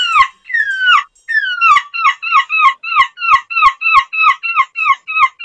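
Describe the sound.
A nine-year-old child's voice imitates a seagull, starting with two long, high, falling wails, then breaking into a rapid, steady run of short, squawking cries. Loud and alone, with no talking.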